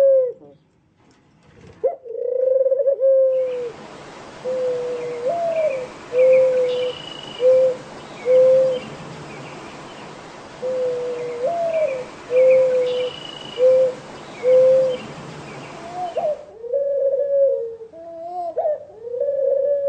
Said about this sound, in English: If you've ever heard a dove cooing, and you think about it, it actually sounds much like the whining and the groaning sounds of a person who is deeply saddened and crying as they move along. Listen to this sample that I put together.